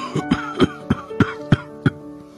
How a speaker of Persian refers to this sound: حالا پدر بزرگ با شدت بیشتری سرفه میکرد.